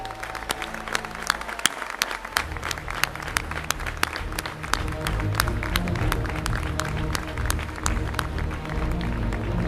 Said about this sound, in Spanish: ¡Enhorabuena, festeros! ¡Enhorabuena, festeras! ¡Este aplauso es para vosotros!